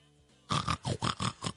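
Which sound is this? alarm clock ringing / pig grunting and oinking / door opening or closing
pig grunting and oinking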